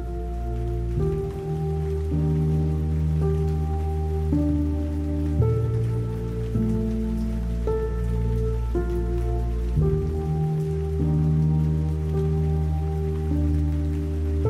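Steady rain patters continuously in the background beneath soft, sustained ambient music whose held chords shift slowly; no one speaks.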